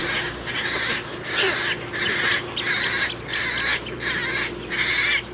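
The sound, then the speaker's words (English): Harsh, raspy squawks from wading birds at a major nesting area for herons, egrets, roseate spoonbills and wood storks repeat in a steady rhythm, about seven calls in a row, loud over a low murmur of background colony noise. “it's also a major nesting area for herons, egrets, roseate spoonbills, and wood storks”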